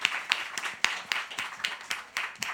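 An audience applauds a guest children's book author with a dense stream of overlapping claps, crisp and bright, some sharper hand claps standing out now and then. The clapping holds steady throughout, with no voices over it.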